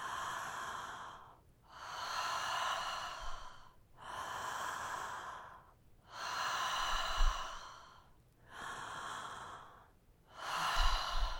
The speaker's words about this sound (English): And now with the same amount of volume of air as when you were sipping through the straw, just breathing in through the mouth and then out through the mouth. Continuous breathing.